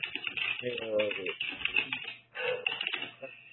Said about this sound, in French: Il appuie sur le clavier. On entend un clavier qui... Ah oui, je note le résumé. Je savais pas que vous entendiez. On entend que ça, même.